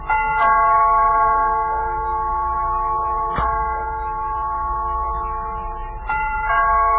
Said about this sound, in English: What is there about a ringing doorbell that makes you think of something like that?